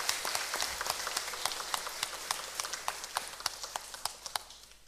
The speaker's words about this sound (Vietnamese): Sự thành công trong việc ghép giác mạc từ một cháu bé 7 tuổi sang hai người trung niên và lão niên đánh dấu sự tiến bộ vượt trội của nền y học Việt Nam trong lĩnh vực ghép mô tạng. Chúng ta hãy cho một tràng vỗ tay thật là lớn để tán dương.